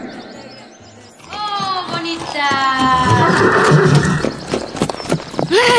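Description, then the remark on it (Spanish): A horse gives a loud whinny, a long quavering neigh that rises and then trails off, followed by continued noisy bustle and movement. “¿Qué tú haces a caballo?”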